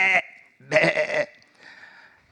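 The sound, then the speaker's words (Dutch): A sheep in a field bleats in a short, wavering call, then a longer, louder bleat, trailing off into a fainter one. Clear, with no voices. “Dan kan je daar maar beter lopen zo met je schapen.”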